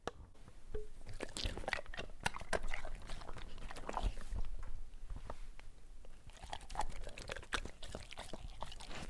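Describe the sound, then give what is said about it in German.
A dog chews and bites at something, with a steady run of wet, crunchy snaps and clicks that continue without pause for several seconds. “Jetzt hat Kara, unser Hund, das Lied gefressen.”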